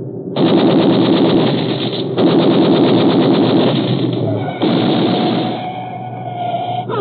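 Long, rapid bursts of loud gunfire from a moving car at pursuers crackle over a roaring engine. A sustained tone rises in the final seconds as the firing continues.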